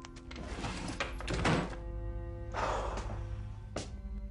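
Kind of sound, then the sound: household object, drawer being shut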